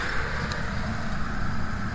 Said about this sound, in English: Are there people there with you? Yeah, it's kind of noisy here. Gas station.